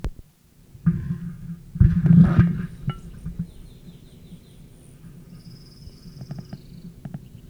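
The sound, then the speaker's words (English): A male rufous hummingbird's dive display: a loud, rushing buzzy burst swells and fades within a couple of seconds, followed by thin, high chirps and faint twittering calls over a low rumble. “Dive by male rufous, object unknown.”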